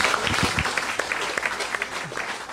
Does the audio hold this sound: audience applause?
yes